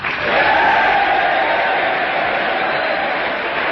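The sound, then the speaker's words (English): Members of the U.S. Congress, Republicans, Democrats and the gallery, rise and applaud and cheer General Douglas MacArthur, a dense wash of clapping and voices that swells within the first half second and holds loud and continuous throughout. “Once more, the Republicans rise as a man and begin applauding.”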